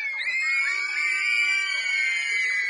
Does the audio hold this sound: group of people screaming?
yes